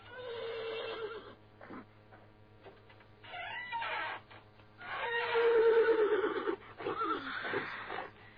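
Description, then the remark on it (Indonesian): A horse neighs in a series of loud whinnies with shrill, wavering calls and short snorting breaths between them, with no talking. “Kuda ibumu ada di belakang.”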